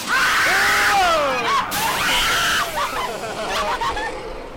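Several people scream at once on a scary ride, loud, their high wavering shrieks overlapping and rising and falling for several seconds, with a brief burst of hissing noise partway through.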